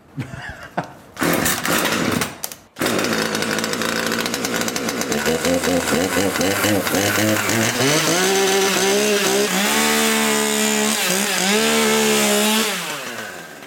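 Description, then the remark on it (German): A chainsaw roars loudly and continuously as it carves a wooden bear sculpture, working on the bear's paws with wood chips flying, its engine pitch rising and falling in waves as the cutting pressure changes, then cutting out at the end. “Hier fliegen die Späne, die abgeschnittenen Schüppchen. Gerade hast du die Pfoten des Bären bearbeitet.”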